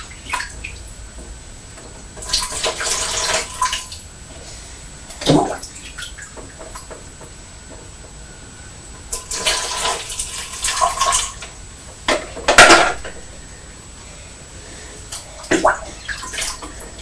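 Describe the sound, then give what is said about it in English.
A child pours water in a bathtub between small yellow and red plastic pots and a big blue bucket: water splashes and pours in short bursts, with sloshing, trickling and a few sharp knocks of the plastic containers, moderately loud, with quiet pauses between pours. “That's right, you can fill the big blue bucket with the with water from the small yellow pots, can't you?”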